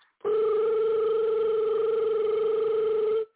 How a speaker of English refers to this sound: Hey, man, you getting a phone call from way from a damn foreign town or foreign city. Man, you know what? Don't answer the damn phone.